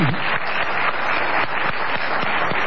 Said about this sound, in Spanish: Vamos a saludar a Esther Goris, que está Esther aquí. Un aplauso para la querida Esther acá.